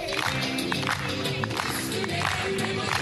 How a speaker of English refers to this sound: Boğaziçi University professors clapped to music in celebration of President Recep Tayyip Erdogan's dismissal of their rector, Melih Bulu, by a midnight presidential decree.